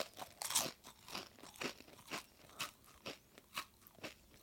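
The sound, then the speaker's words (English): Crisp crunching of a potato chip being bitten and chewed, with about eight to nine sharp bursts in a steady rhythm, no voices. “And this time, think not about sweetness and bitterness, but think about how crunchy, crisp and fresh that potato chip is.”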